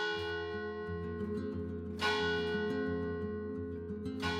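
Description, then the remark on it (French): Church bells ring with rich, overlapping tones that hum and sustain, fresh strikes landing roughly every two seconds over a steady wash of lingering resonance. No one speaks. The church stands a few steps away, across from a volunteer action centre housed in the former presbytery. “Comme par hasard, les cloches de l'église s'étaient mises à sonner à la fin de mon entrevue”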